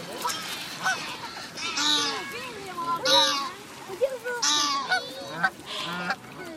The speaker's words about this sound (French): Je connais plein de bernaches du Canada. Et celle-ci, c'est les bernaches du Canada que j'ai.